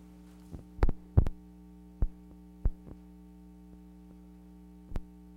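A heartbeat sound effect: dull, low thumps, some in quick pairs, arriving at uneven intervals over a steady electrical hum, with no voices.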